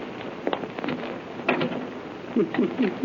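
A door is pushed shut with a sharp, hollow knock, preceded by a few scraping clatters, then a short stretch of muffled voices speaking.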